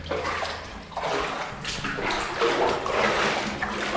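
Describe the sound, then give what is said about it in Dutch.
Continuous splashing and sloshing as someone wades through clear standing water in a tunnel passage, with echoing reverberation and irregular bursts of louder splashes throughout. “Wat een water. Ja, kijk eens even. Het water staat hier natuurlijk.”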